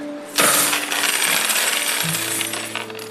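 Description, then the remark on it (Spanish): A pile of gold coins clinks and jingles continuously for almost three seconds, loud, with a faint low tone sustained underneath. “Imaginemos que el banco posee una cantidad total de, digamos, 100 monedas de oro.”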